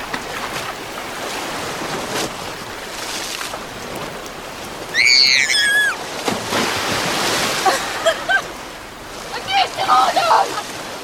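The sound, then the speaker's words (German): Sea waves wash steadily on a rocky coast in Croatia in a broad, hissing surf that fills the whole clip, with brief high-pitched voices or playful shouts breaking through now and then as a woman around 40 plays with two children in the sea. “Das Bild einer glücklichen Familie irgendwo an einer felsigen Meeresküste Kroatiens.”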